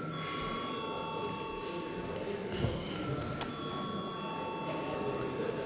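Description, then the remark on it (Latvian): A parliament voting bell rings continuously, a steady, sustained electric tone held throughout, with a faint murmur of background noise underneath, called for before deputies vote on a bill amending the Species and Habitats Protection Law in its second reading. “Paldies, lūdzu zvanu.”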